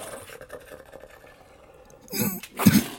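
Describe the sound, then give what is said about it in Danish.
A voice imitates sputtering coughs, two harsh wet bursts close together near the end after a quiet stretch, like someone hacking up water. “Den hoster noget vandet op.”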